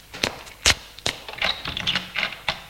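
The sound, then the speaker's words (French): A woman puts her hand on a door handle, gently takes it off and puts it back, giving a quick series of sharp metallic clicks and light rattles, irregularly spaced, moderately loud with no one talking. “Arrive vers la porte et met la main sur la poignée.”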